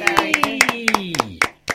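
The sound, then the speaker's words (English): A short burst of applause: about a dozen sharp, evenly spaced handclaps, fairly loud, with a voiced cheer sliding downward in pitch underneath. “Slight sense that that deserves a round of applause.”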